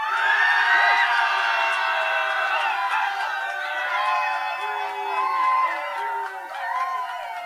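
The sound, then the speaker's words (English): An audience cheers loudly and steadily for several seconds for a band in an audience cheer vote at a band competition heat, a dense mix of high-pitched screams, whoops and shouting voices that swells and dips slightly without pause. “And finally, give us a cheer for ….”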